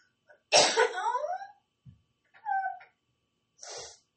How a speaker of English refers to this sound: I can't stress this enough, y'all. Coughing hurts. It really hurts.